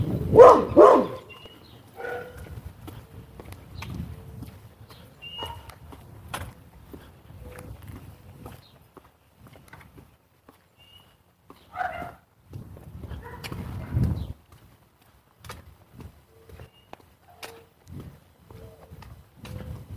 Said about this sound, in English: Dog sounds loud this morning.